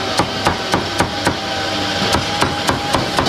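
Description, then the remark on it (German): A cleaver chops duck meat on a wooden block in quick, even thwacks, five sharp strikes, a short pause, then five more, over a steady background hum. “Gemüse ist also wichtig, aber ich sehe, da hinten wird auch nebenbei die ein oder andere Ente zerhackt oder das Hühnchen zerteilt.”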